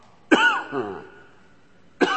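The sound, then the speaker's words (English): A person coughs: one sharp cough with a rough, voiced trailing sound, then a pause of over a second before a second abrupt cough. No one speaks. “Did you ever get a nagging cough?”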